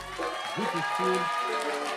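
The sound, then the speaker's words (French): A concert crowd in Villefranche applauds steadily in a dense, continuous wash of clapping and cheering, with voices calling out over the noise throughout the short burst. “Est-ce qu'on peut l'applaudir s'il vous plaît?”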